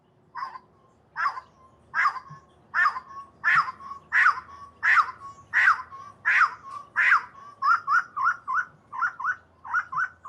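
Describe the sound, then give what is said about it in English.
A long-tailed wood partridge calls in a steady series of loud, rising notes, about a dozen, that shift into quicker, shorter repeated phrases near the end, heard clearly with no talking. “The long-tailed wood partridge is found only in southern Mexico, so it's an endemic species there.”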